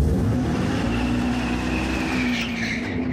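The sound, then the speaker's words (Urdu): A steady, loud engine-like drone with a sustained low hum and rising whine, as if a car is revving continuously, with a brief squealing rise near the end; it is the simulated engine sound of a fully electric Dodge Charger muscle car. “دا د you ماشین په څیر غږ لري او تر ډیره شاید د انجن په څیر رامي، خو په کومه وسیله چې د ډاج چارجر دا موټر چلیږي هغه د لوړ غږ او ځغاسته پخوانی قوي انجن نه دی.”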